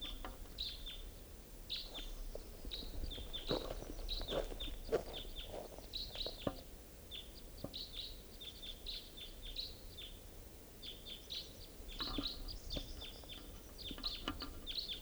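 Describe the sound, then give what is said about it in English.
Two birds call repeatedly, trading short, high chirps in irregular bursts over a steady, low background rumble, the calling bird in a Douglas fir. There is no talking. “Two birds.”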